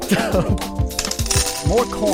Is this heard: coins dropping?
yes